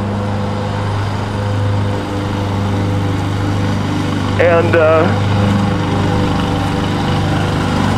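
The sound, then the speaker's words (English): A lawnmower engine drones steadily throughout with a low, constant hum as the mower is pushed across a wide expanse of lawn, while a person briefly speaks over it partway through. “I'm pushing a lawnmower across this... idiotic expand.”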